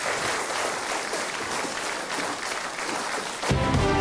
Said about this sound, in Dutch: Dus wij moeten afsluiten. Groot applaus voor alle lijsttrekkers. Dank u wel.